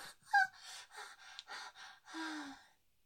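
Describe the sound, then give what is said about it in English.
A woman gasps sharply, her breath catching in a voiced, high-pitched intake, followed by several quick breathy pants and a longer, lower-toned exhale at the end. “Pinch me. Make me gasp.”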